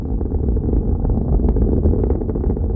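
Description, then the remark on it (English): A steady, heavy rocket-launch roar with deep rumbling bass, broken by rapid irregular crackles and pops caused by a very high-speed jet of exhaust gas ripping into the ambient air and generating turbulence. It stays loud and continuous throughout, with no voices. “I asked him why is it that in the course of a normal launch, we sometimes hear not only a deep rumbling and roar, but also this kind of crackling and popping sound.”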